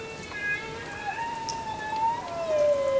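Raindrops falling on the ocean's water surface make a steady, dense hiss of patter throughout, with faint drawn-out gliding tones running beneath it.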